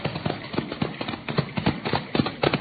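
Two ridden horses' hooves clop in a steady, rapid rhythm, the beats overlapping as the animals move together, fairly loud with no voices over them.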